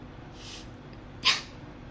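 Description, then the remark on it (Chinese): A person gives one short, breathy bark-like yelp in imitation of a dog after a faint soft exhale; otherwise quiet. “求我呀，学狗叫。”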